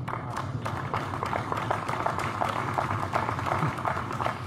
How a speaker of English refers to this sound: Somewhat tepid applaud there, I would say.